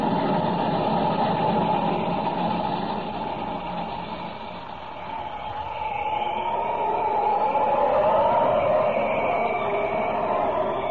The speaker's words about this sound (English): The train ahead. She's practically across. When the locomotive reaches the other side, the bridge supports at that end will be blown up.